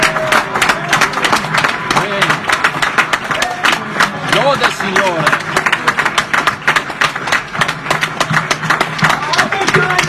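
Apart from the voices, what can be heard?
audience applause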